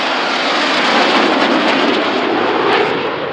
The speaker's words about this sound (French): c'est vrai que c'est très impressionnant de voir ces avions